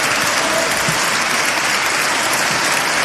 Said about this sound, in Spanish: Y ahí no puedo ya seguir. El aplauso fue muy largo, pero se entendía perfectamente.